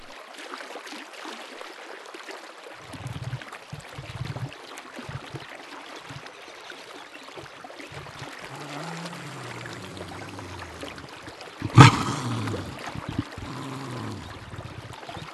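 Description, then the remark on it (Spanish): Jaguars splash in a river, and the water sloshes and splashes continuously with low churning movements and one sharp, louder splash near the end. No one speaks. “Incluso pueden cazar peces mientras se dan un buen chapuzón.”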